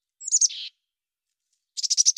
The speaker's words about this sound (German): Demnach bedeutet eine bestimmte Lautfolge aus drei Tönen »Pass auf«. Ein zusätzlicher vierter Laut dagegen »Komm hierher«. Wenn die Meisen gemeinsam versuchen, einen Feind zu vertreiben, singen sie eine Kombination aus diesen beiden Rufvarianten.